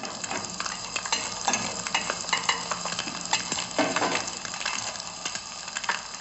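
Food sizzles steadily in a hot pan as dinner is cooked, while a utensil stirs and scrapes through it in irregular bursts, fairly loud, with no voices.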